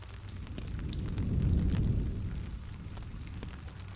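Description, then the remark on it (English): Water drips steadily in a dark tunnel, with scattered sharp, echoing plinks at an irregular pace over a low, rumbling hum that swells in the middle and then fades back. “I hear, like, a pretty constant, like, dripping.”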